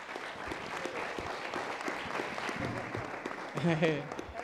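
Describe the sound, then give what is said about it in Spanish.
Steady audience applause for Senator Germán Martínez of Quiroga, Michoacán, a dense wash of many hands clapping at a fairly even level for several seconds, with a brief voiced sound rising near the end over the clapping. “Un aplauso, por favor.”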